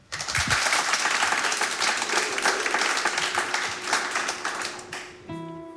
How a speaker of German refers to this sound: Dann heißen Sie sich doch nochmal mit einem tosenden Applaus.